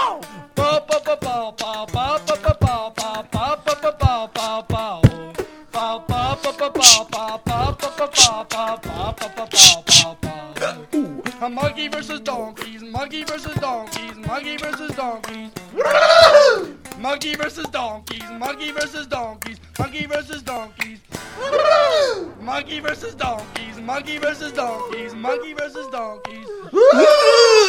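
A song with loud, wailing and warbling vocals over rough, jangly strummed guitars, the singing swooping and straining with occasional laugh-like yelps throughout.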